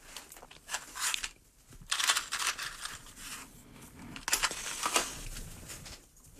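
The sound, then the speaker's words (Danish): A cigar being relit: dry crackling and rustling bursts come in three uneven waves, with soft breathy puffs between them and no talking. “Ja, jeg skal lige have ild på cigaren igen.”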